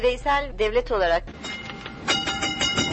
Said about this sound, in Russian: Тарахтит по рельсам старый трамвай, не помнящий своего года рождения. Истекляль – пешеходная улица, въезд другого транспорта сюда запрещен.